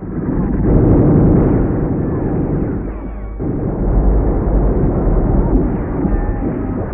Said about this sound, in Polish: 12 października, 6 rano. Pierwszy pułk artylerii lekki otwiera ogień ze wszystkich swoich baterii. Po 15 minutach kanonady batalion rusza.